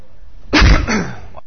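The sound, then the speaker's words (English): A single loud, harsh cough bursts out right up against the microphone, sharp and close, then trails off into a brief raspy exhale before silence. “Coughing is a different thing when you got a mic right here.”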